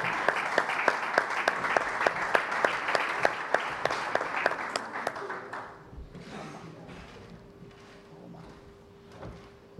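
A crowd at the Serveis Mèdics Penedès roller hockey awards presentation applauds with loud, steady clapping and a regular rhythmic beat of sharp claps, which thins out about halfway through into quieter, scattered claps as it dies down.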